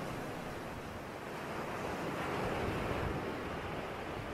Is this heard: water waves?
yes